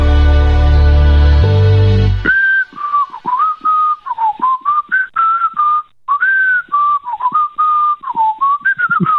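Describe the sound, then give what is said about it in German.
A person whistles a lively, wavering tune in short phrases over a telephone line, thin and narrow-sounding, following a brief loud burst of droning tone at the start. “Ich höre da irgendein Pfeifen in der Leitung.”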